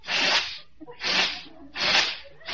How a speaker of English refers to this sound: That calls for mixture 678 in the spray gun. Attention! Spray gun's out. Ready, aim, squirt!